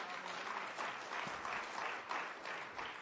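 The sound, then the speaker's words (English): A church audience breaks into sustained applause, giving the Lord a hand clap during a sermon, a dense wash of many hands clapping steadily for about three seconds, fairly loud and even, with no voices standing out. “Give the Lord a hand clap for that.”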